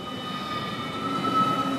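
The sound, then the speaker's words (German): Steady railway hum with a high metallic whine and a low rumble, like a train idling or easing along platform 2 of Zug railway station, continuous and moderately loud with no voices. “Wir stehen auf dem Perron 2 vom Bahnhof Zug”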